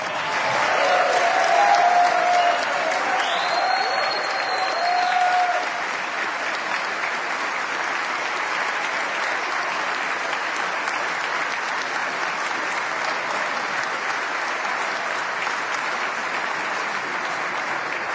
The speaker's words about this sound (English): Now, let's give a round of applause not just to them, but to their teachers and their parents and to all the others like them across the great state of Wisconsin.